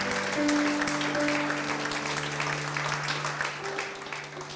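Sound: audience applauding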